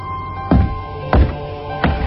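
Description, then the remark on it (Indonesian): Three heavy, dull thuds at a slow, steady pace, heavy footsteps at night on a wooden staircase of 23 steps, each a deep low thump with a brief ringing tail over a quiet background hum. “Bunyi langkah yang berat.”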